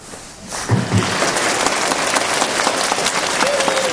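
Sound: audience applause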